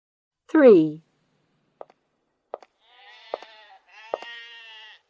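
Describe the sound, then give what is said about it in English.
A sheep bleats once, loud, followed by a few soft clicks and then two longer, raspy, quivering bleats. “Are you a sheep? Yes, I am.”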